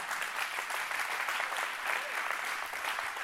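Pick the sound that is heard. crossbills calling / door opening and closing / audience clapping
audience clapping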